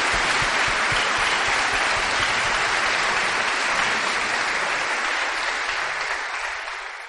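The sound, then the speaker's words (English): A crowd applauds the church helpers steadily, a dense wash of many hands clapping at once that holds strong for several seconds before gradually thinning and fading toward the end. “Give them a big hand Vamos clap bater palmas para eles.”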